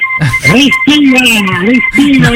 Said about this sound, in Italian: Respira! È molto fastidioso, non va bene. Cioè, poi che strumento è questo che sta suonando? Non... E questa era una trombetta MIDI. È una trombetta MIDI, ma tu ce l'hai sempre col MIDI, papa. Ce l'hai sempre col MIDI.